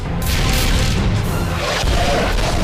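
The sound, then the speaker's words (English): Loud, continuous barrage of booming explosions with crashing impacts, dense and rumbling without pause, as cannon shells burst against an energy shield and dissipate on touching it. “The shells rain down on the shield, but they dissipate on touching it.”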